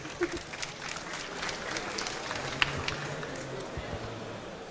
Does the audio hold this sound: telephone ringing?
no